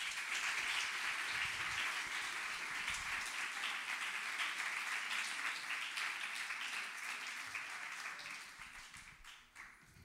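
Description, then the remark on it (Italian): Steady audience applause welcoming guest Giovanni Benincasa, a dense wash of many hands clapping at once, holding strong for most of the ten seconds before tapering slightly at the end. No voices are heard. “Signore e signori, un bel applauso per Giovanni Benincasa.”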